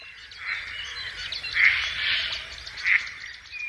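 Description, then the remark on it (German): A chorus of water birds calling and chattering together at Stresower See (Lake Stresow), dense overlapping chirps and squawks with a few louder, sharper calls rising above the steady din, no talking. “Der Sängerwettstreit von Wasservögeln am Stresower See hört sich fast so an wie vor 20 Jahren, als die inzwischen verstorbene Elsa Kunert noch über den Grundmauern des geschleiften Dorfes Stresow wandelte.”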